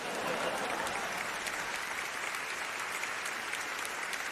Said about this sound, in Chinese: 在深度生活的特会上，人们期待听到这样的信息，你们也愿意听，所以你们今天在这里，为自己鼓掌吧。